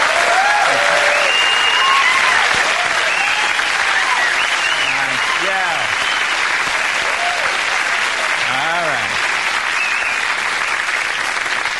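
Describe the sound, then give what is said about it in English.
Steady, loud audience applause at a Live at Gotham comedy show with comedian Ralphie May fills the whole stretch, a dense wash of clapping with a few voices rising and whooping faintly through it. “Couple people not applauding.”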